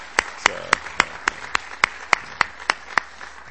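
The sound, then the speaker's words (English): Audience applause welcoming the spouses, with sharp, evenly spaced claps, about three or four per second, standing out over a steady, softer wash of background noise. No one speaks. “We give a round of applause of welcome to the spouses.”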